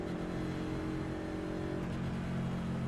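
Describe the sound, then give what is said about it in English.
Race car engines roar and rev continuously, a dense mechanical drone with harmonic whine and slight pitch shifts as cars brake and accelerate, with no speech. “Wow, we're already hitting brakes and trying to miss people.”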